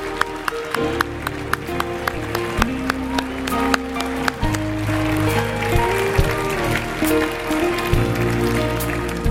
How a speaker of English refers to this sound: I think it would be fitting that we give a clap and a shout to the Lord. Bless the name of the Lord. Bless the name of the Lord.